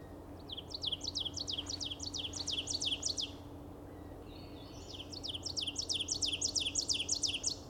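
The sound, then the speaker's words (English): Two bursts of ovenbird song played from a phone app to call in an ovenbird, each a rapid run of about ten repeated, ringing two-note phrases, separated by a short pause over a low steady background hum. No one speaks. “Okay, you've got an app with the oven bird, and you're talking to the oven bird.”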